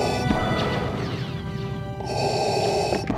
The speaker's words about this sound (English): And you also know what Darth Vader's breathing sounds like.